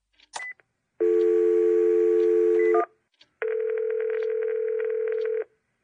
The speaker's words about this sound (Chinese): 校长拿起桌上的电话。